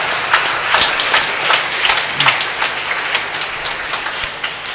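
A steady round of applause from a crowd, dense overlapping clapping with a hissing, rain-like texture and scattered sharper claps, sustained at an even loudness for a few seconds.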